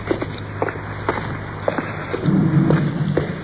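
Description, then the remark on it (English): Traffic rumbles across a bridge overhead, heard from below as a series of dull thumps from passing cars, swelling into a heavier, sustained rumble near the end. No one speaks. “Cars. Look overhead.”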